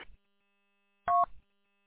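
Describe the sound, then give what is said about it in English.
A single short telephone keypad DTMF tone from a phone someone is fiddling with, a clear dual-pitched beep lasting about a fifth of a second, fairly loud, with brief soft clicks before and after and otherwise quiet. “Just going through the Abbey support site here, messing with this phone”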